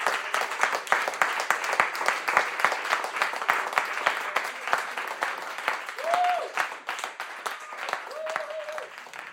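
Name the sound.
group applause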